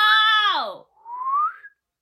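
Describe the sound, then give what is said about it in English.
Two whistled notes imitate a cardinal's call in a bird-call guessing game: a bright, harmonic-rich tone sliding steeply downward, a brief pause, then a thinner whistle rising upward. Fairly loud, with no speech. “Is that a cardinal? Yes! Let's go! That was a cardinal.”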